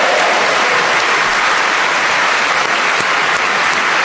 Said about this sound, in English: That round of applause, I'm sure, was for all four of them, and I only have to thank them for being so magnificent in this game. Paul Merton, Tony Hawks, Sue Perkins and Neil Malarkey.